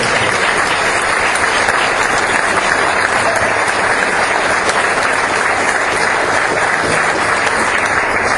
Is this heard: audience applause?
yes